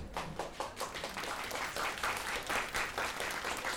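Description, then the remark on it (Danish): A group of people applauds a speaker who has just finished, dense overlapping claps forming a continuous wash of sound at moderate loudness, with no voices standing out. “Og da jeg så er færdig, så klapper de.”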